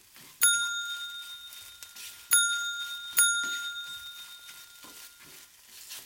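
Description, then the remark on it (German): A house service bell, rung by the master of the house pressing its button in the salon, rings shrilly three times, each bright metallic strike ringing out and fading, with a longer pause after the first and the last two closer together. No voices. “Da ertönte schrill die Klingel.”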